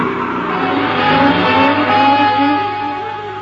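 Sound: car accelerating away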